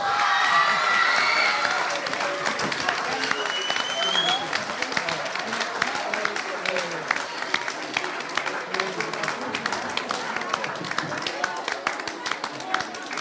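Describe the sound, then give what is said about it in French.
A crowd applauds the Jean Lamour middle school (collège Jean Lamour) after the display-stand competition round, with steady, dense clapping that stays loud throughout, a few cheers and whistles rising near the start and scattered voices mixed in. “Alors, après tout ce suspense pour l'épreuve du présentoir, je vous demande d'applaudir le collège Jean Lamour.”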